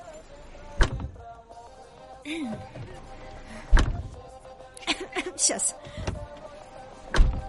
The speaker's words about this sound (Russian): Ну что, покатаемся? Хорошо. Закрывай дверь, поехали.